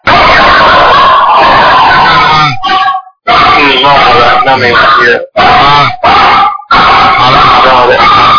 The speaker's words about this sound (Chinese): 你当心啊，你家里的狗叫了。